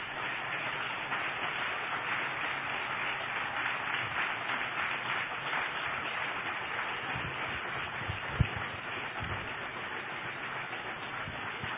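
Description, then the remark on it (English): Steady audience applause for a pastor as he comes up to share his vision, a dense even wash of many hands clapping at constant loudness with no voices over it. “Would you give my pastor and your friend a round of applause as he comes to share his vision of what God has in store for us?”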